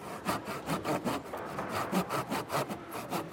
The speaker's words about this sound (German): Was ist das denn? Also das ist eine Säge und damit tue ich eine flache Stelle zu einer eher eckigen Form bringen. Also das ist hier eine ganz scharfe Klinge,